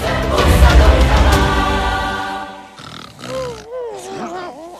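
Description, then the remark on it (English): A warthog, Pumbaa, snores with loud, deep, rattling grunts for a couple of seconds, then fades into softer wavering, voice-like tones that rise and fall, while Timon sleeps on his round belly, which bounces up and down. “Now, Timon sleeps on Pumbaa's round belly, which bounces up and down as Pumbaa snores.”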